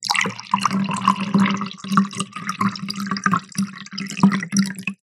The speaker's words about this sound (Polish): Uwaga. I nalewam wodę teraz zimną.